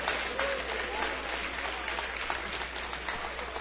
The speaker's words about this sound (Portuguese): Aplauda o Senhor e celebra o seu nome. Aplauda o Senhor e celebra o seu nome.